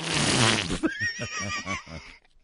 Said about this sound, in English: Your mommy's farts stink.